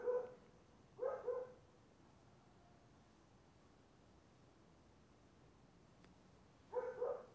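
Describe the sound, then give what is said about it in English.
Dogs bark in short bursts, a quick double bark near the start, another pair a second later, then a pause before a final pair, over a steady background hiss. “It's the dogs.”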